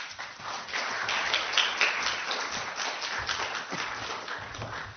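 An audience applauds steadily for about five seconds as a visual artist is introduced at a presentation, a dense, crackling wash of many hands clapping at once with no single claps standing out and no voices over it.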